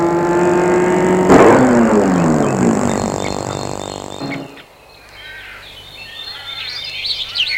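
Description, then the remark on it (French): A car engine hums loudly, slows with a falling pitch and cuts off after a few seconds as the car stops in front of an inn restaurant, leaving birds chirping in the quieter open air. “Alors Martin va arrêter la voiture devant un restaurant auberge.”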